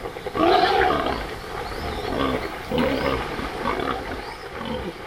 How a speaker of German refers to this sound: Ich schaltete meinen Minidisc-Rekorder ein, um die Lustschreie der schweinischen Horde festzuhalten.